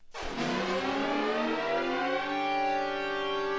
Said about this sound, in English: That sound played on phones throughout California last night when an Amber Alert was issued for Ethan and Hannah Anderson, who were reportedly abducted in San Diego.